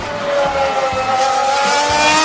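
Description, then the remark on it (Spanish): A car engine, played in a guess-the-car game and identified as Benzema's car, revs loudly and steadily, its droning tone climbing gradually in pitch over a couple of seconds, with a rough, roaring texture and no voices. “¿A qué coche corresponde este motor?”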